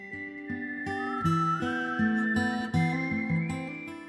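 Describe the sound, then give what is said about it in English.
A clear, sustained whistled melody glides above steadily plucked acoustic guitar chords, evoking a spaghetti-western theme; the guitar strums in an even rhythm while the whistle holds long notes. “which sounds at first like some spaghetti western theme with the acoustic guitar and whistling.”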